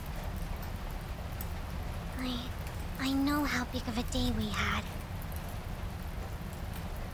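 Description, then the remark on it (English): A steady, even hiss of rain with a crackling fire fills the background throughout, with a soft voice speaking briefly over it midway. “Let's just relax and listen to the sound of the rain and the crackling fire.”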